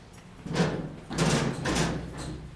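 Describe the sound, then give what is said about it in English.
A heavy blast door at a missile launch control center, one that closes to protect against the missile down the hallway, grinds and rumbles as it moves, with several broad scraping surges over a steady low hum, loud with no talking. “So through the doors, here's our other two doors. Now, these are the ones that are going to be closed up”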